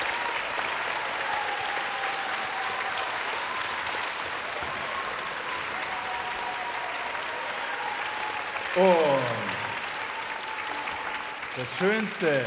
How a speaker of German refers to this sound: Und das größte Dankeschön ist natürlich Applaus für das Münchner Rundfunkorchester.